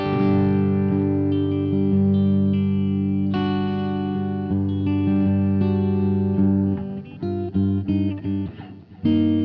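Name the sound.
electric guitar through amp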